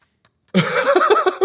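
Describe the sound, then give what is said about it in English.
After a brief silence, a cat lets out a loud meow, one drawn-out cry of about a second with a wavering, slightly raspy pitch. “Apparently the cat likes it.”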